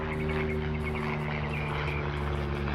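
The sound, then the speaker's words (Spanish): A military helicopter drones steadily overhead, its engine and rotors producing a constant low hum with a broad rushing wash, holding an even level throughout with no voices. “Es un helicóptero tipo de guerra.”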